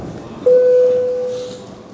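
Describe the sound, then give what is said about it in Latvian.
A parliament voting bell rung before a first-reading vote on amendments to the law on budget and financial management: a single electronic bell tone sounds abruptly and holds steady for about a second at a mid pitch, then slowly fades over a quiet background hum with no talking. “Paldies, lūdzu zvanu.”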